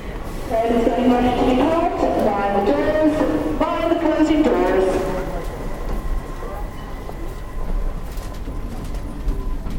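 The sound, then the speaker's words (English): Steady low rumble of a moving London Underground Central line tube train heard from inside a carriage carrying about 15 or 20 people, with several voices chattering during the first half before the mechanical drone carries on alone. “Here we are in a central line tube train.”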